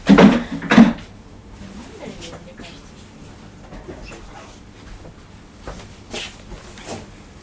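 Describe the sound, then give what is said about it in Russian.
A third chair being taken out and set down: two loud wooden thumps right at the start, then quieter shuffling with a few soft knocks later on. “Так, сейчас я третий стул достану.”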